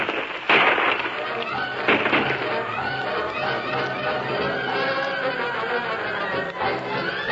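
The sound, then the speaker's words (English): Gunshots crack out in a shootout as two gunmen behind a rock pour lead, the rock chipping and flying, a few sharp bangs standing out against a steady, dense roar of commotion that never lets up for the whole stretch. “Them two are pouring lead at us like it was a rain.”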